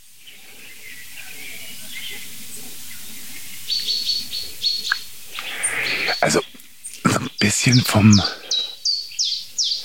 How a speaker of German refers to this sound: vom Gefühl her klingt es wie eine Eule.